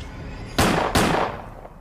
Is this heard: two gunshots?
yes